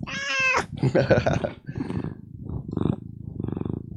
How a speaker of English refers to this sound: let's get her purring. Come on, Charlie. Yes. Yes, she's... Purr.